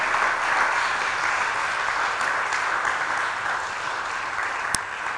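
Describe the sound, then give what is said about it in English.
An audience claps in a steady, dense wash of applause that holds at a fairly even, moderate level for several seconds, with no voices standing out. “Oh, I thought the clap would have been louder than that.”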